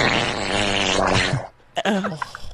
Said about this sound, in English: No, because that's not a fart. That's something different. That's that. That's a diarrhea fart, girl.